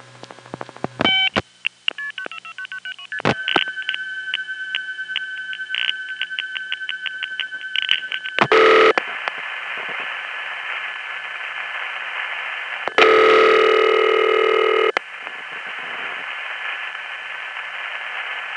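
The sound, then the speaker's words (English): Rapid bursts of paired multi-frequency telephone signaling tones chirp in quick succession, then give way to a steady train of rhythmic revertive pulses and clicks, inter-office signaling on the old telephone network, over a hissy line, with loud noisy bursts in between. “The multi-frequency tones are followed by revertive pulsing, another inter-office signaling method, and the call ends up on a phone company test line, which rings and then effectively picks up and hangs up the phone repeatedly to test equipment.”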